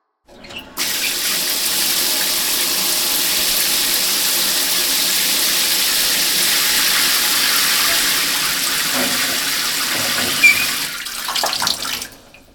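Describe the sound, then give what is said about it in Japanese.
Steady running water pours for about eleven seconds, a broad hissing splash as foam is rinsed away, ending with a brief uneven spatter before it stops. No one speaks. “それじゃ、泡流すよ。”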